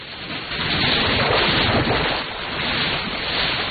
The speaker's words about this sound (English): Outside, someone's being swept along by the strong currents in the river and is fighting to keep his head above the surface.